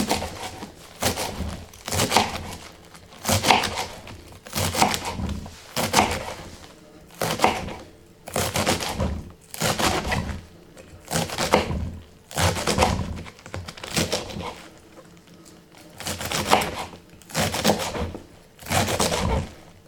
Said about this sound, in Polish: Teraz przekroję na pół. O. I teraz posiekam drobno. Na tyle, ile potrafię.